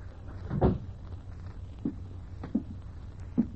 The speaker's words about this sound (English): Still want the door shut, Lieutenant? Yeah.